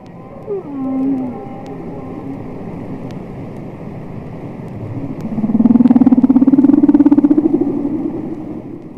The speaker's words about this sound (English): So I started to do those things and I just had this urge to sit with the whale song and just put the headphones on and listen.